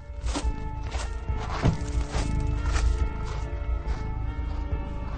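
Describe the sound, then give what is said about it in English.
A steady series of footsteps, roughly eight firm, evenly paced steps over a few seconds, as two people get out of a car and walk up to the front door of a large house at the end of a tree-lined drive, fairly loud against a low background hum, with no one talking. “Carter and Emek get out of the car and walk up to the front door.”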